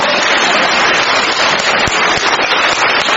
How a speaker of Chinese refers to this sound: 鼓掌。